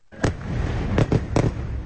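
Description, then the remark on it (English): Israeli warplanes bombing Gaza City with at least 60 missiles back-to-back: four heavy, sharp explosions in quick irregular succession, the last three bunched together, over a constant low rumbling background. “That's the sound of Israeli warplanes bombing Gaza City with at least 60 missiles back-to-back.”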